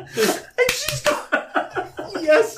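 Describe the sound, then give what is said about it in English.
A few quick, sharp hand slaps in a rapid burst, imitating a child fish-slapping his hand through the space between seats, mixed with loud, rhythmic laughter that carries on after the slapping stops. “He starts fish slapping in between the seats.”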